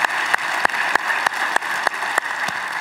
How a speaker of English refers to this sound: And so, church, by applause, would you just welcome them as we are one church in many different locations.